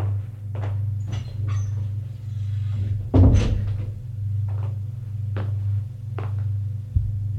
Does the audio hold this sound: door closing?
yes